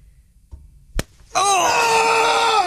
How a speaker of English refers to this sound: Chris, what is this we are slapping you round the face with?